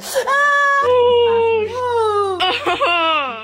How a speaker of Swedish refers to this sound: På TikTok och Instagram har en trend fått spin där unga tjejer, framförallt i USA, filmar sina reaktioner när en hormonspiral sätts in. De gråter och kvider.